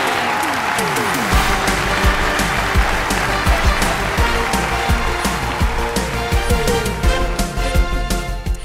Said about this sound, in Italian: E facciamo un caloroso applauso alle nostre ombrine!